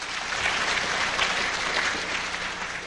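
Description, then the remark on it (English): A steady burst of audience applause, many hands clapping together in a dense, continuous patter at moderate volume for about three seconds, with no voices standing out. “There, now you can applaud.”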